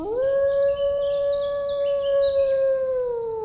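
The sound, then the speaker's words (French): A single long wolf howl holds a steady, clear pitch for several seconds before sliding gently downward, loud, with faint high chirping in the background. “Des loups.”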